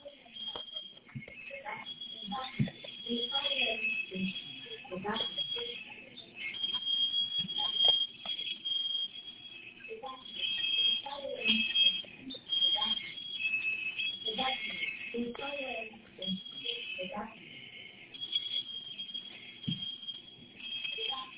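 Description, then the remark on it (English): A smoke detector alarm that will not turn off shrills nonstop in a high, piercing tone, dipping only briefly now and then, while people talk beneath it at moderate volume. “Yeah, but because of the smoking is not turning off, I put the board in there, but it's not going to turn off.”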